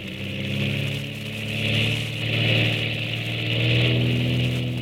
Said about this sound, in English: You see, Commander, the torpedo plane will be catapulted off that track over there. Yeah. In some of our tests, she's gone as far as 100 miles. Oh, keep your eye on her. She's due to let go right now.